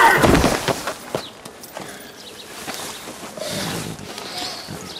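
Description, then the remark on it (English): A sharp, loud slap across the face lands right at the start, followed by a few softer thumps and scuffling movement. “I slapped you, I didn't whack you in the head with a shovel!”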